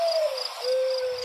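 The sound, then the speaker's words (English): A single soft, low bird hoot glides slightly downward in pitch and then holds steady, heard alone over a faint, constant high-pitched background hiss. No one speaks. “I know that bird, and they do the woo hoo yeah. thing.”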